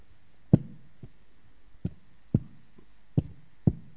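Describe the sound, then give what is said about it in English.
A mother's sharp knocks in the morning land in loose pairs, about six raps spread over a few seconds, moderately loud, with quiet gaps between and no voices. “And my mom had this very look that if she gives you that look and that knock.”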